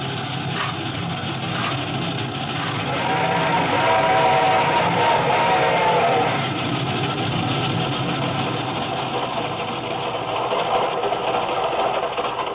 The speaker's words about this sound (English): This train ain't going very fast. He's climbing, honey boy. Wait till we get over the mountain, you'll see her go.